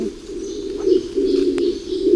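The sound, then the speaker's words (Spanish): A Eurasian woodcock's low, steady purring call runs in two long throbbing phrases separated by a short pause, with a single sharp click partway through the second phrase and no voices. “Ahí oímos ese ronroneo, es una becada.”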